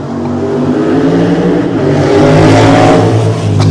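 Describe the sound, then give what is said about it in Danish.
A loud motorcycle engine roars, its revving growl swelling to a peak midway before easing slightly, continuous throughout with no voices. “Og lige motorcykelpause.”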